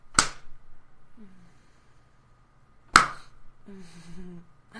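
Two sharp hand slaps on a person's buttocks during a spanking, spaced about three seconds apart, each a crisp smack followed by quiet, with a soft voice murmuring briefly after the second.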